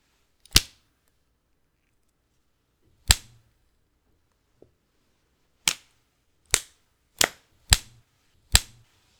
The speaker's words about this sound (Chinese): 这次的新鞭子用着不是很趁手啊。